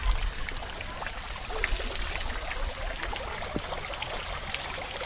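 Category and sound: nature, trickling water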